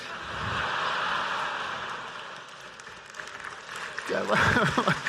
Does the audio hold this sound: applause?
yes